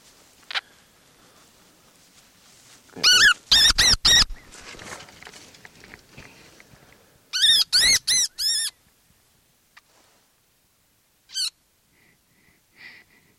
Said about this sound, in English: Okay, that was a baby wood rat.